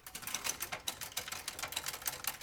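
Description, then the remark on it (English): Steady typing on a noiseless typewriter: a quick, fairly even run of soft, muffled keystroke clicks, quiet, with no voices. “This is a true noiseless typewriter.”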